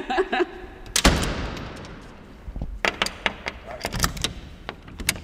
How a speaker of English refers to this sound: Can we shut the doors just to see what it would be like? We can definitely, we can lock ourselves in.